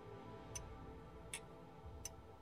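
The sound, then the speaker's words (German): A wall clock hanging in a hotel room gives three crisp, faint ticks at a steady, unhurried pace over a low background hum, with no voices present. “In Hotelzimmern, in denen Uhren hängen, die ticken, nehme ich diese Uhren ab und stecke die in eine Schublade und lege irgendwas drüber, damit ich das Ticken nicht hören muss.”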